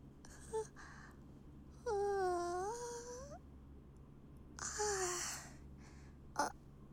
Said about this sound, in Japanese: あくび出ちゃった。眠いわけじゃないよ。ただちょうどいい電車の揺れと静けさで気分がリラックスしてるんだと思う。